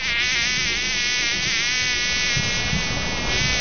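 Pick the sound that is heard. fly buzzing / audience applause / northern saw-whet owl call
fly buzzing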